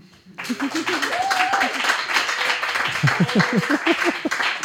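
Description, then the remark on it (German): The audience of the Chaos Computer Club Berlin breaks into loud, sustained applause mixed with cheering, whistles and excited crowd noise, a dense roar of clapping with voices calling out above it. “Und das Publikum des Chaos Computer Clubs Berlin, das vielleicht mal ein bisschen Lärm und Geräusch machen kann.”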